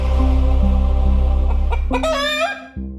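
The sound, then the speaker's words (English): A chicken clucks in a few short bursts, then gives a louder, drawn-out squawking call near the end, over a steady low hum with no talking. “You know, nobody came in with like, hey, let's put a chicken on the HBO.”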